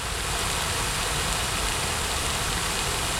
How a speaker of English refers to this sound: I come around here almost daily, totally for the fountain